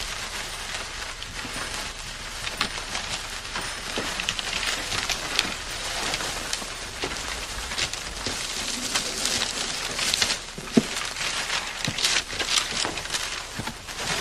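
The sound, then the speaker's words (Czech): Steady crinkling and tearing of paper as a gift box is unwrapped, a dense crackly rustle with sharp little snaps scattered throughout, no voices. “Rozboluje krabici.”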